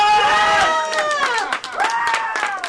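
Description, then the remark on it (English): A crowd gathered for the Supreme Court ruling erupts in loud, excited cheering as DOMA is struck down, with high whooping voices rising and falling, while scattered clapping rattles underneath throughout the brief celebration. “And finally, celebration.”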